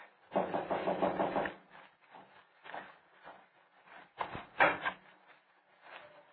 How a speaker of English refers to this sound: Now, take the knock on the door and the footsteps coming in. It's bottom of page 11.